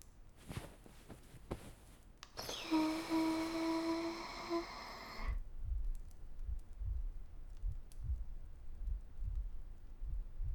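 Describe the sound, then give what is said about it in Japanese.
Soft, muffled heartbeat thumps, heard against a person's chest during a hug, pulse at a steady, slightly quick rhythm, deep and low, following a brief bright ringing tone that fades out. No one speaks. “ほら、私の心臓の音聞こえる？トクン、トクンって聞かれるのちょっと恥ずかしいかも。”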